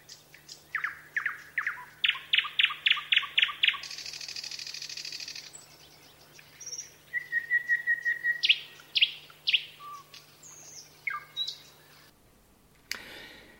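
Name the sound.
nightingale singing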